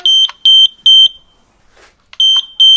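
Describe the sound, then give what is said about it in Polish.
A carbon monoxide detector alarm beeping loudly, a shrill high-pitched tone sounding in rapid repeated bursts, pausing briefly before the beeping resumes. “A gdzie jest ten czujnik? Pokażę go pani? Tutaj.”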